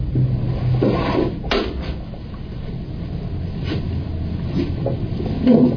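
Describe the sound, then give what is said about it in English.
A door is opened, with a few short wooden clunks and scrapes over a steady low rumble, moderately loud, with no voices. “Please open that door.”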